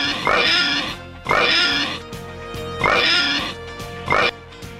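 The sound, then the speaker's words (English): Four loud pig oinks in two quick pairs, each a harsh nasal grunt rising and falling, with a steady musical backing underneath and no talking. “Okay, let's get the oinks.”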